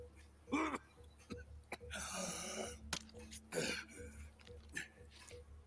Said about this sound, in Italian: La tosse. È messo malissimo.